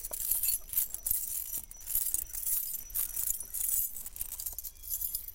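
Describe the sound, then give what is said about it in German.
A pile of coins in a just-opened treasure chest clinks and jingles continuously for several seconds, a bright, shimmering metallic rustle with small swells, with no voices. “Los, mach auf! Wow, so viel Münzen habe ich noch nie gesehen.”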